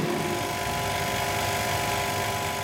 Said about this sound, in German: Eine Pumpe entfernt die Luft aus der Kammer.